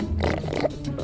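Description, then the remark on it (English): A person imitates a warthog with a short, rough, grunting snort, low and gravelly with a nasal, pig-like texture, lasting about a second. “That's a warthog.”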